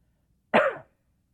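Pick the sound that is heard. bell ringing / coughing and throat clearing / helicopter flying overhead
coughing and throat clearing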